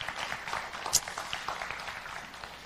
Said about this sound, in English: So can we just give him a round of applause, and we'll, yeah.